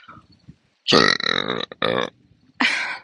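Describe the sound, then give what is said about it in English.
A drawn-out, gurgling burp followed by two shorter burps after brief pauses, fairly loud despite an attempt to burp quietly, outdoors at 1 a.m., with no talking. “I'm trying to burp quietly because I'm outside and it's 1 a.m.”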